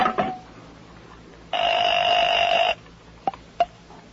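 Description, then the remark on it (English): A telephone being dialed to call Mr. Johnson: a clatter of handset clicks, then a steady buzzing tone for about a second, followed by two sharp clicks. Fairly clear, with no voices. “Hold on a moment. I talk to Mr. Johnson on this phone.”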